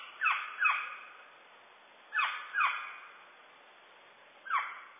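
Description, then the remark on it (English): A northern saw-whet owl, one of North America's smallest owls, gives its harsh, downslurred fall skew call five times: two quick pairs and then a single call, each fading with a slight echo, with no one talking. “In the fall, the birds make a skew call.”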